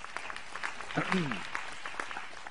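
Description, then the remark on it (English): Audience applause: a dense patter of many hands clapping at a steady level, with a voice briefly calling out over it partway through. “So let's give the a real clap offering and honor them.”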